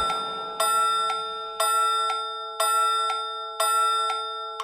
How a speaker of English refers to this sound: The mouse ran up the clock. The clock struck five.